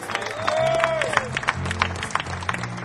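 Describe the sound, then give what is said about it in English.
An audience claps steadily throughout for band member Richard Hendrickson from Freehold, New Jersey, the applause dense and moderately loud, with a rising and falling whistle cutting through early on and a low sustained tone humming underneath. “From Freehold, New Jersey, nice round of applause to Richard Hendrickson.”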